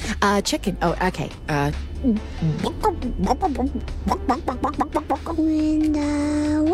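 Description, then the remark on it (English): A mother's voice imitates a chicken, answering a child asking what the chicken says, with a rapid, uneven run of short clucking bursts, fairly loud, ending in one long, drawn-out squawk. “Mama, what does the chicken say?”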